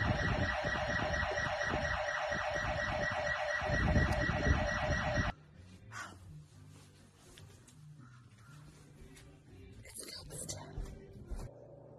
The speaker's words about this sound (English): But the house alarm is going off, so.